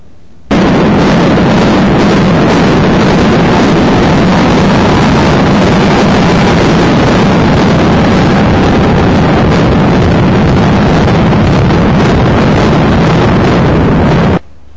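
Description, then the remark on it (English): The demolition of the Veterans Stadium: a loud, dense roaring rumble with a crackling, blast-like texture that holds steady for about fourteen seconds without fading, with no voices. “But I've got here, I think this will play, a picture of the demolition of the Veterans Stadium.”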